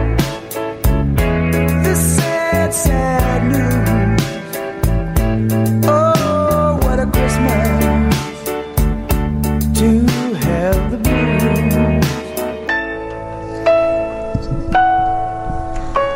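A festive Christmas rock song plays loudly on 720 WGN radio, with bright ringing bells over steady drums and guitar, then thins out in the final seconds to sustained ringing tones with lighter accompaniment.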